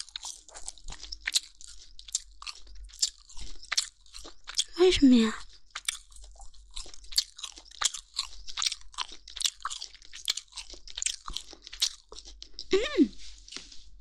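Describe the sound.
Loud crunching as something tough and hard that was steamed for a long time is chewed steadily through the whole stretch, with a brief spoken question cutting in partway and again near the end.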